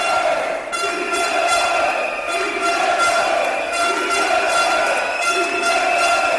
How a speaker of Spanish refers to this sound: A gritos de sí se puede, después de dos reuniones maratonianas apenas se han acercado las posturas.